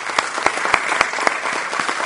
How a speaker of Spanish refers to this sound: Pero bueno, nos toca reconocer, o me toca reconocer a mí, en la categoría multinacional a la empresa Globant, para quien pido un gran aplauso.